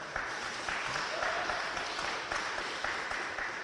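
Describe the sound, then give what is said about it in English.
A crowd at a live event on the uppermost floors of the Old State House in downtown Hartford, Connecticut, claps steadily, a dense, even patter of many hands with no pauses, moderately loud, with faint murmuring voices underneath. “Clap if you think that we're getting screwed and having to pay for this war.”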